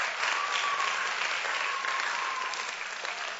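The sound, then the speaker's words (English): An audience claps steadily for the youth team for a few seconds, a dense, even wash of applause that holds at a fairly constant level before easing slightly at the end. “Come on, clap, this is your youth team.”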